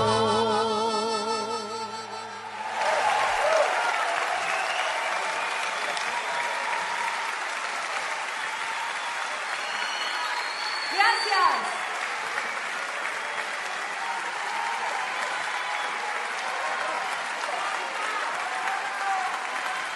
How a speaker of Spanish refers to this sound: Y con los aplausos de todo el público presente en la Sala Sinfónica del CCK, con la conducción de Anabela Soch, por Nacional Folclórica, de esta forma se presentó el ciclo de conciertos de Radio Nacional en el CCK.